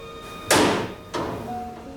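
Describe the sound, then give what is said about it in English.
A heavy metal door of a concrete bunker on a cliff top above the waves is pushed and slammed shut with a loud, booming impact, followed by a second softer clunk as it settles, leaving a faint metallic ring hanging in the air. “slams the door on the world outside.”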